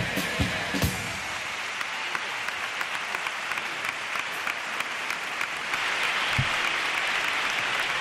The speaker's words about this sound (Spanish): pero al menos disfruta, que el aplauso que escucha, este sí que llevará, este sí que llevará por fin tu nombre.